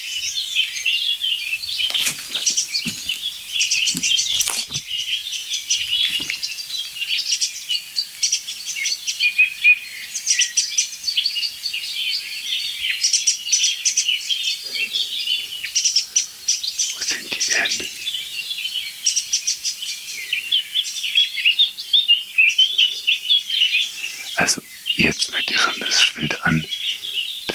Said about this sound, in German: Boah, jetzt ist Singdrossel. Und Amsel. Das ist alles Singdrossel, dahinter ist die Amsel. Das ist tiefer als die Singdrossel.